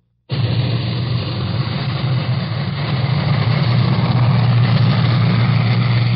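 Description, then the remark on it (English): An atomic bomb test blast in Nevada, recorded in the transmitter tower of CBS station KLAS in Las Vegas, 45 miles from ground zero, arrives as a sudden onset, then a loud, steady, deep rumble that rolls on unbroken for several seconds with no voices. “Our CBS station in Las Vegas, KLAS, had a recording machine running in its transmitter tower when one of the blasts went off.”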